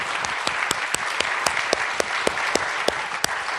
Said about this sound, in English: So let's give a round of applause for all of us, all of you volunteers, because you're rock stars.